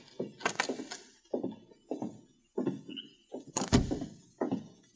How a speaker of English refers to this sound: He took a bunch of keys out of his pocket, selected one, and then opened the door.